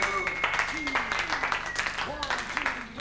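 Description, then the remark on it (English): An audience at Club 440 applauds the evening's guest, a dense, steady patter of many hands clapping for about three seconds, with scattered voices and rising shouts mixed in over the clapping. “Ladies and gentlemen, how about a warm round of applause for our guest this evening at Club 440”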